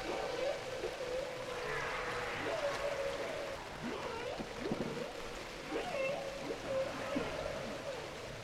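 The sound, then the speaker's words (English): Drawn-out whale calls of Henry the Hudson Whale, from the Hudson River, moan and sweep up and down in pitch several times, echoing over a steady watery hiss with no one speaking. “Oh, there is our friend Henry the Hudson Whale.”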